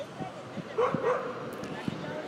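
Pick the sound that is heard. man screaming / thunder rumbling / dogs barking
dogs barking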